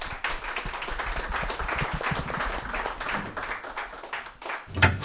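Steady audience applause for a speaker coming on stage to read a text, a dense wash of many hands clapping at fairly even loudness for several seconds, with a brief louder burst near the end.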